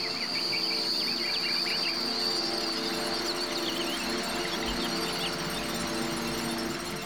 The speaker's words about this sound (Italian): Il primo movimento si apre con suoni presi dalla natura, lo scorrere dell'acqua, il cinguettio degli uccelli.